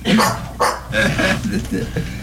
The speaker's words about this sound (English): Did you hear that bark? Did you hear that bark?